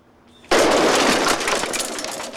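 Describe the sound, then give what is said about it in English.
A pile of toy models on a garden table explodes: a sudden, loud explosive burst after a brief quiet moment, followed by a couple of seconds of harsh crackling and clattering debris, with no voices. “A pile of toy models on the garden table explode.”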